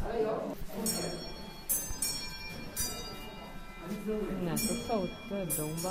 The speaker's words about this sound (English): Ah, the sound of those bells.